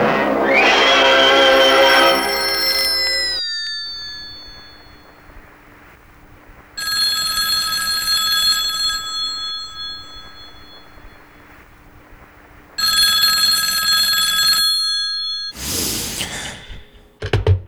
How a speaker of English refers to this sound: At home, and your phone just fucking rings and rings and rings.